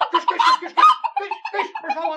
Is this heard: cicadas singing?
no